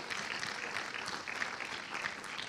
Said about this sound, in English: Let's give a big clap offering to our Lord Jesus Christ.